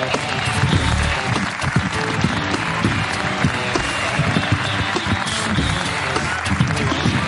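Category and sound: crowd, audience applause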